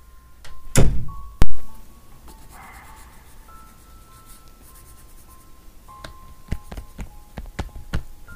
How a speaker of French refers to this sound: N'oublie pas de fermer la porte quand tu pars. Je l'ai barré.